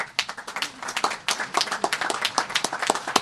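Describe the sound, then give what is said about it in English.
An audience applauds with dense, overlapping hand claps, a steady crackling patter of moderate loudness that carries on throughout with no speech, applauding a record one-day Chinese soybean purchase deal. “Now, let's applause for this remarkable achievement.”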